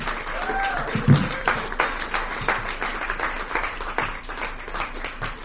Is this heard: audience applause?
yes